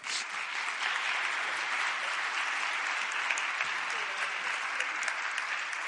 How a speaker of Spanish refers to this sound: Un aplauso